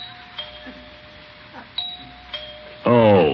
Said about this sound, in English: Why is he ringing the doorbell after I left him that note?